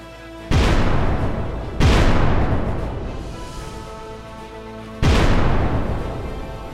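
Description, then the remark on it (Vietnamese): Three heavy booming blasts, like explosions or artillery fire, heard outside while soldiers surround General Dương Văn Minh, strike at irregular intervals, each with a sharp onset and a long rumbling decay that lingers until the next. “Họ vây quanh ông ta trong lúc phía bên ngoài vẫn còn nghe những tiếng nổ.”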